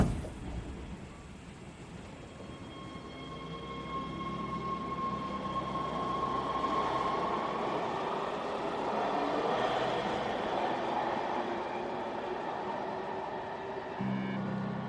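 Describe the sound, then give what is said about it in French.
A metro train pulls away and keeps running with a steady rumble and rising tonal whine, the continuous roar of wheels on rails filling the space with no voices. “Après une demi-heure de transport, le jeune homme perce discrètement le sac de la pointe de son parapluie, se lève, sort en laissant le paquet derrière lui, et le métro repart.”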